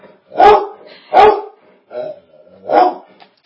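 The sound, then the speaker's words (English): Two dogs, Shiloh and Jamie, bark loudly, four sharp, full-throated barks in quick succession with short pauses between them, and no one talking over them. “Now Jamie's going to go join her because once Shiloh starts barking, Jamie has to go find out what it is. Now her bark is louder.”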